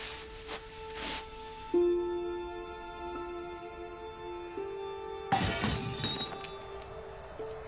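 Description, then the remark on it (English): Glass shatters with a harsh crash partway through, followed by scattered tinkling fragments, set against a steady electrical hum; a couple of softer knocks come earlier. The glass breaks in a flat across the road. No voices. “Listen to the glass breaking in the druggy flat across the road.”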